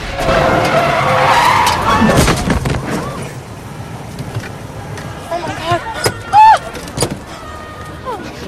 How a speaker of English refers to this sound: He descends into a subway and races back up the steps to cross the road against the lights. A car hits him, sending him soaring into the air. He crashes down. The woman driver dashes over to him.